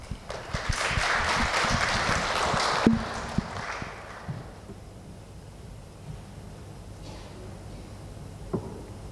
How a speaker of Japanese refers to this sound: では拍手を持ってお迎えいたしましょう